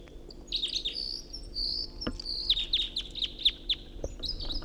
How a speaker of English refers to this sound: Got two singing birds here. I got one right above me and another in the tree above the net.